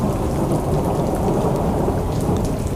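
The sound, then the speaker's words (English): Heavy rain pours down in a steady, dense roar while low thunder rumbles underneath, a constant, loud storm wash with no voices. “It's storm season. With power outages and weather-related emergencies more likely than the rest of the year.”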